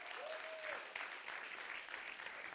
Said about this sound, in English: Can we give Harvest Point Church a hand clap of praise?